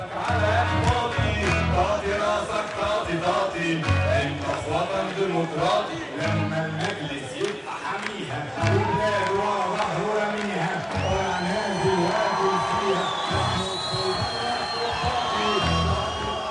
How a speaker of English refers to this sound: You hear cheers of elation along with the words to that song. Translate that song for us. What's being sung there?